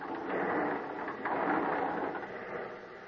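A heavy sliding door at the top of a flight of stairs on a boat rolls open with a continuous scraping rumble lasting about three seconds, swelling slightly midway before easing off, with no voices.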